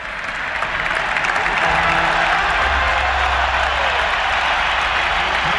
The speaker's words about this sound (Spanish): Pedri, Pedri, va al campo. Va al campo Pedri, se marcha Olmo. Ovación para Pedri.